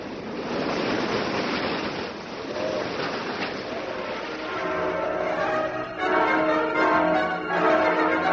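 Rough, heavy open-sea waves churn and crash continuously around a small boat, a dense roaring wash of water, with faint voices briefly audible beneath the noise toward the end.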